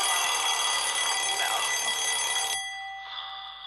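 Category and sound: household object, alarm clock bell ringing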